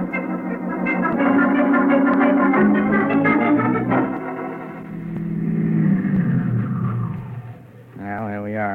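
A car engine drones steadily as the vehicle drives, its rumble shifting in pitch as it speeds up and slows, with a brief wavering tone near the end.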